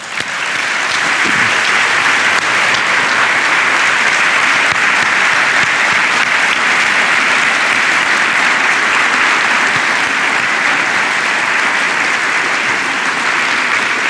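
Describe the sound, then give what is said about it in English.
A large audience breaks into loud, sustained applause for service members in uniform who stand up, a dense steady wash of clapping that holds at an even level for about fourteen seconds without any voices standing out. “If you're here in uniform, stand up so the rest of us can give you a round of applause.”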